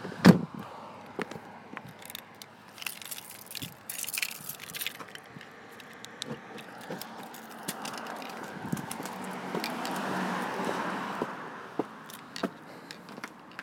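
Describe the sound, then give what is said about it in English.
Someone climbing out of a car whose right-hand tyres have low pressure: a steady run of rustling, creaks and sharp little clicks and knocks, with a thump near the start and a louder scuffling stretch later. Nobody speaks. “I'm gonna try and get out of the car.”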